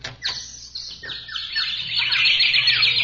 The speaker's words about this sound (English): Hey, must be a million birds here.